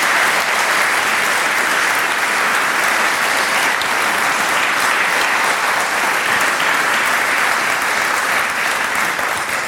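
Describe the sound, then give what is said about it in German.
At a church service, an audience claps steadily for about ten seconds, a dense, loud wash of many hands with no pauses and no voices standing out. “Einen großen Applaus.”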